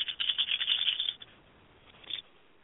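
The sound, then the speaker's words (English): Dice, blessed and rolled to answer a question, rattle and clatter across a hard surface in a quick burst of bright clicks for about a second, then a brief final knock after a short pause. Fairly quiet, with no voices. “Now I'm going to take the dice. I bless the dice, and now I'm going to ask the question, give me truth.”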